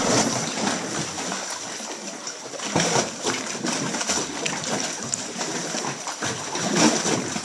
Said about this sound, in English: And now maybe my luck is running out as waves are picking up.